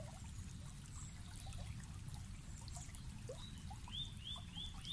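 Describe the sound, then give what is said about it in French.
A stream trickles and burbles steadily throughout, with a soft continuous rush of water. Small birds chirp faintly in the background, with a short series of rising whistles near the end. “Vous regardez le ruisseau et avez la sensation qu'il vous attire à lui, comme une jolie invitation tacite à le rejoindre.”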